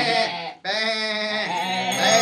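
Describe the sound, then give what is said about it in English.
Sheep found hiding in a cave, sheltering from a storm, bleat loudly, a short wavering cry followed after a brief break by a longer, quavering one, with no talking. “We found all these here sheep hiding in another cave.”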